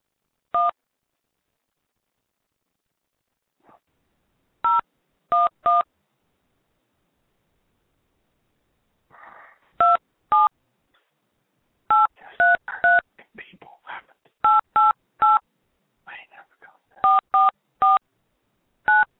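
Telephone keypad tones beep in irregular bursts as someone tries to set up a three-way call: about fifteen short, bright dual-pitched presses, some single and some in quick runs of two or three, with faint murmuring voices between the later ones.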